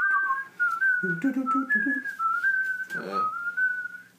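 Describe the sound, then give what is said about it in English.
A breathy, flute-like tune in the style of panpipe lift music, holding long steady notes with gentle pitch steps, while a voice briefly talks underneath twice. “Yeah, just panpipe sort of lift music.”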